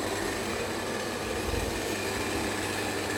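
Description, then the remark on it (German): A kettle of water at a rolling boil, giving a steady, dense rushing hiss with a low bubbling rumble underneath, swelling briefly midway and otherwise unchanging, with no voices. “Wasser dampft, das heißt, ich würde sagen, es kocht.”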